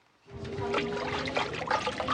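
Steady trickling and splashing of water from a hot spring foot bath at the foot-bath café Hanse begins after a brief quiet moment, continuing at a moderate level with a bubbling, flowing texture and no one speaking.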